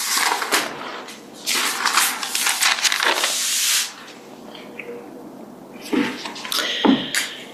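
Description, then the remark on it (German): Rushing, hissing gusts like wind driving across water, spraying in uneven surges for a few seconds, then fading to quieter scattered splashy bursts near the end. “Gottes Wind gegen das Wasser, danke,”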